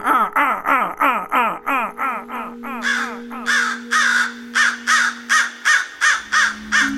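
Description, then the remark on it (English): A person mimics a crow's scold, a harsh, easily localized call: a rapid, steady string of about fifteen loud, raspy caws, with no talking in between. “gave John a loud scold. A scold is a harsh, easily localized vocalization”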